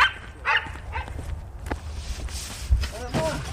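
A dog lets out several short, sharp barks at irregular intervals, mixed with rustling and shuffling footsteps and a low background rumble.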